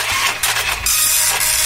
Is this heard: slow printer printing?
yes